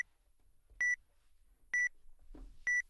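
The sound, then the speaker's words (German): A book scanner beeps three times at a steady interval of about one second while waiting for the page to lie still before capturing the image, each short electronic tone clear, with a brief soft rustle between the second and third beep. “Man hört das dann auch, das Gerät piepst dann.”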